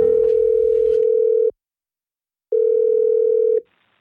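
A telephone ringback tone sounds while a call is being placed from Radio 1: two steady, clear electronic beeps, each lasting over a second, separated by a brief silence, with faint line noise at the start.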